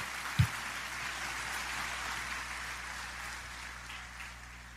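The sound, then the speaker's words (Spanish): An audience at a Spanish-language church service applauds in praise of the Lord Jesus Christ, with steady, dense clapping that holds an even level for several seconds, with a single low thump near the start and no voices. “Vamos a dar un aplauso a Él y solo a Él.”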